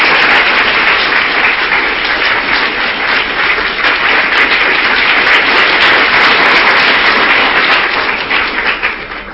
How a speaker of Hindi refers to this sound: ताली बजा के दादी का स्वागत करेंगे।